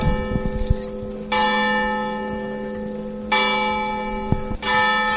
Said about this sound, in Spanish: Es el minuto de silencio, son las campanas este mediodía en la plaza del Ayuntamiento